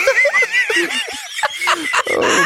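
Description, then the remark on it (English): Rapid, warbling turkey gobbles ring out loud in a quick run of bubbling calls, followed by a short break and a rougher, noisier burst. “Oh, bread for the turkeys.”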